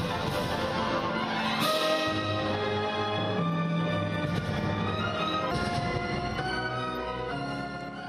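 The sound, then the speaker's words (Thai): A full orchestra of employees of the German software company SAP, playing violins, cellos and trombones, performs a sustained, rich passage with strings and low bass notes, steady and loud throughout, with no voices present. “เรามีบทเพลงบรรเลงออเคสตราหนึ่งบทเพลงมาให้ฟังกันค่ะ”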